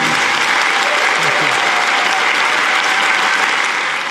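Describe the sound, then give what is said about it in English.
Warm, sustained applause from an audience at the Byron Theatre for author Richard Flanagan, a dense steady patter of many hands clapping at full volume for about four seconds without letting up. “I want you all right now to take on the job of giving Richard Flanagan a very warm round of thank you applause.”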